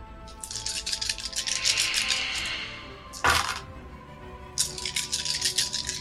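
dice rolling

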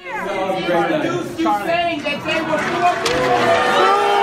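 crowd booing

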